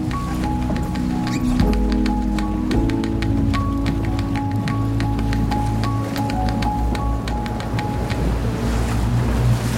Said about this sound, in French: On est secoué hein, par les vagues? La mer monte. Hey, ça se lève gentiment là. Hein. C'est en train. La Méditerranée peut chahuter.